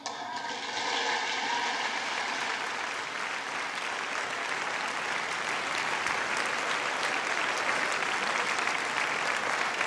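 A large audience applauds a mention of Ronald Reagan during a speech, a dense, sustained wash of clapping that holds at an even loudness for the full stretch with no voices standing out.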